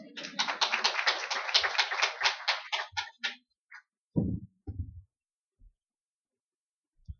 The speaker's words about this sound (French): On peut l'applaudir.